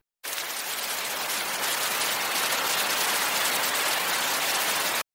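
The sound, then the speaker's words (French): Steady, dense hiss of heavy rain pouring down outside, constant and fairly loud for several seconds with no voices or other sounds. “Quand il pleut à seaux dehors, il est bon de pousser la porte d'un pub et d'y sentir la chaleur de la convivialité.”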